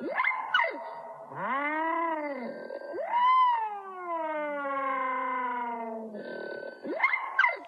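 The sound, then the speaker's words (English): Slowed-down European starling calls: eerie, drawn-out swooping tones that rise and fall like a wailing siren, with rich harmonics, bracketed by quicker warbling chirps at the start and end. “This is a European starling slowed down making weird noises.”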